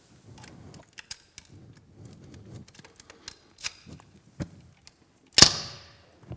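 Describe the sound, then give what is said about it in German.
A key fumbles and clicks in a bicycle's built-in frame lock with scattered small rattles. The lock then snaps open with one loud metallic clack and a brief ring. No voices. “Wenn man fahren will, kann man einfach den Schlüssel stecken.”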